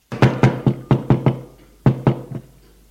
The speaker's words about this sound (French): L'on frappe à la porte.